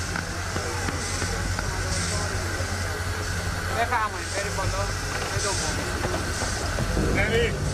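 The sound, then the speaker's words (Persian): A steady low rumble and hiss of a train idling at a station in the town of Baharmast, where it stops for 15 minutes, continuous throughout, with faint voices and brief chirpy sounds in the background. “قطار در شهر بهارمست به مدت 15 دقیقه.”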